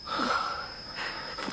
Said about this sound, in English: He just started a-twitching like that and breathing real hard. You know what's wrong, Preacher? Think so. Sick bad, you think? Pretty bad.